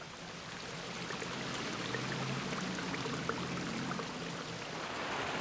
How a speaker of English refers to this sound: A stream of water flows along a cracked curb into a gutter.